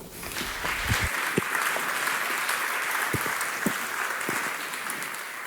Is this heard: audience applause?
yes